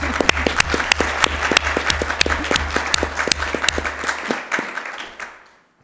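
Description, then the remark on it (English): A group of people at a meeting applauds steadily for several seconds to thank vice chairs of the IMEP steering body, a dense patter of claps with a few sharper individual claps standing out, then it fades out toward the end. “We applause, okay, yeah. And we applause.”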